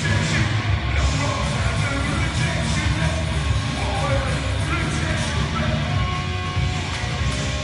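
A New York punk band plays live to a crowd of about 200 inside Friendship Hall at the Montrose Fairgrounds during the Punk-O-Rama: a loud, dense wall of distorted guitars and pounding drums with shouted vocals, steady and unrelenting throughout.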